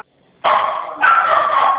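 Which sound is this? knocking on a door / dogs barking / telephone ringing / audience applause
dogs barking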